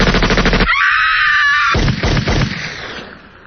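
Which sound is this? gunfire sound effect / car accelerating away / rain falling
gunfire sound effect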